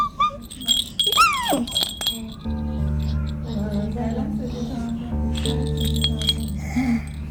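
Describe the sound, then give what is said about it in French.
A small bell jingles and rattles in quick, uneven shakes as a baby shakes it, with the baby's high whimpering sounds at the start and a steady low hum underneath. “Et regarde, ça c'est la clochette.”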